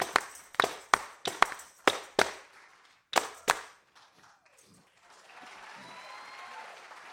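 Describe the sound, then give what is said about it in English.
Sharp hand claps ring out in a steady rhythmic pattern, about ten loud, crisp claps in quick groups, followed by a brief pause and a soft wash of noise. “Clap your hands. Let me see how much rhythm you got.”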